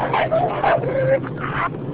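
A dog gives a series of short, high yips and whiny barks, repeating in quick bursts over a couple of seconds with no one talking.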